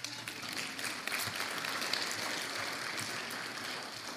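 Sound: audience applause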